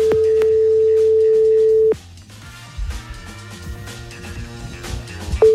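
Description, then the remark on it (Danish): A steady single-pitched telephone ringing tone sounds while a phone call is being placed, for about two seconds, stops, then returns briefly at the end, with music-like background sounds and soft thumps in between. “Jeg finder lige hans nummer frem her. Ringer til ham.”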